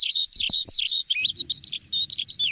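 Birds sing continuously in a quick, warbling series of high chirps and trills, clear, with soft low rustling and a couple of muffled thumps underneath, in a fir forest in the mountains of the Chartreuse massif, under sun and a blue sky.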